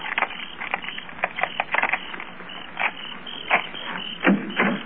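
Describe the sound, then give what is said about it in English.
Keys rattle and scrape in the locked back door of a house, with a run of sharp metallic clicks and clacks at an uneven rhythm, ending in a few heavier clunks as the mechanism turns and the door unlocks. No one speaks. “I'd like to try my keys first.”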